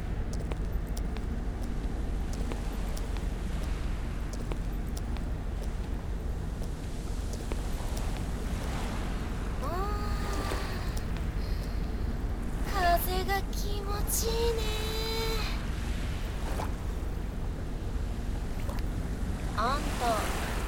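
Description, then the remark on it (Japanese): Steady roar of ocean waves washing onto the shore, mixed with wind, with a few brief high-pitched calls rising over the surf midway through. “ねえねえ、イカ焼きもいいんだけど、ちょっと先に海見ていかない？もっと波打ち際までさ。”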